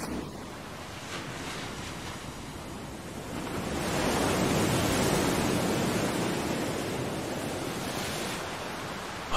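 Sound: ocean waves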